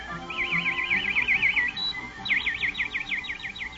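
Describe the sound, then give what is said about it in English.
A nightingale in the trees of a garden sings two bright, rapid trills of repeated high chirping notes, separated by a short pause, with no voices over the song. “But most people thought the most beautiful thing of all was the song of the nightingale, which sounded like this.”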